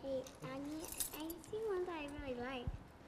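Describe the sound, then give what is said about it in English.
A bunch of keys on a key ring, including house, church and car keys, jingles and clinks in short bursts, fairly faint, while a child talks over it almost throughout. “We've got a key to our house somewhere in here. Let's see if we can find it.”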